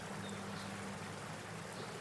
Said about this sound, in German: Das säuselnde Wasser und die Singvögel untermalen den Augenblick.